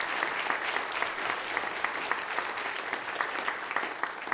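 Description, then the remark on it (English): An audience at a church service claps steadily for several seconds to thank two people for their hard work, a dense, even patter of many hands at moderate volume without any voices over it. “And so could we just give my wife and Renee a hand clap as well, thanking them for their hard work.”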